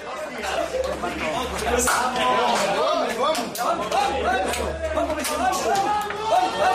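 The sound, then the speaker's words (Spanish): Atlético de Madrid coach Diego 'Cholo' Simeone shouts at and bangs among his footballers in the locker room after the match, several excited voices shouting over one another while sharp bangs and slaps break through repeatedly, the commotion staying loud and unbroken from start to finish. “Esos son los golpes y los gritos de Simeone a los futbolistas del Atlético de Madrid.”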